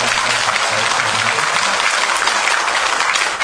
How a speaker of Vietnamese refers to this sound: Trong tràng pháo tay thật là lớn.